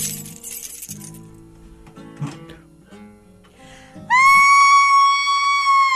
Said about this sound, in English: We're here. Hold on, let me get my keys out.